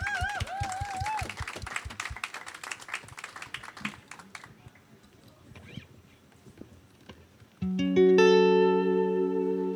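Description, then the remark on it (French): An audience claps for a few seconds over a warbling electronic tone, the applause thinning to scattered claps before loud, sustained synth chords take over. “On l'applaudit,”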